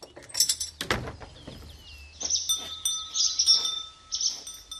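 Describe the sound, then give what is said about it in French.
Swallows twitter in quick, high chirping bursts, with a sharp clank early on and a steady faint hum beneath, at an open barn on a cow farm in the Grésivaudan plain, France. “Ça sent donc bon la vache, mais aussi un petit peu les hirondelles, les petits oiseaux.”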